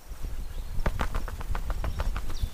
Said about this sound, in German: Das macht auch den kleinen Fuchs neugierig und er klettert nach draußen. Erstmal kräftig das Fell ausschütteln.